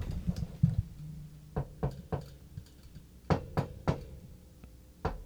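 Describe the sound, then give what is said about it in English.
Light, sharp taps knock on a wooden front door in small irregular clusters, some doubled or tripled, fairly quiet with a low hum underneath and no voices. “It's a knocking on the door, like taps.”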